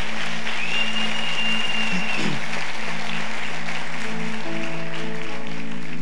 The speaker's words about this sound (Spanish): Dale un aplauso fuerte a Dios por eso.